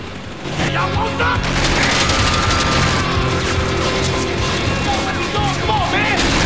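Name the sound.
gunfire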